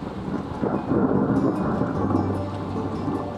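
A storm at sea near Aigues-Mortes, heard from a boat, with a deep, continuous rumble of thunder rolling over a steady wash of rain as the waves grow, fairly loud, with no voices.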